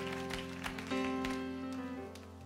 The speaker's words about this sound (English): Would you give the Lord a clap offering of praise?